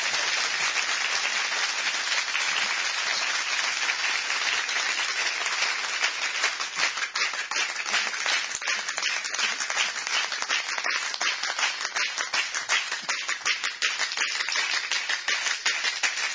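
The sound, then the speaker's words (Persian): A crowd at a religious gathering claps steadily in unison, the dense applause settling into a regular, evenly spaced beat that grows more distinct in the second half, with no voices over it. “از اون کفای خیلی قشنگ و مرتب هم”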